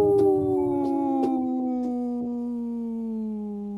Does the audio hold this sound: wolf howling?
yes